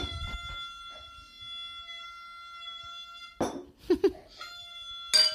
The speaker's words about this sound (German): Ich möchte noch eine kleine Tröte für dich blasen. Los, mach, blas.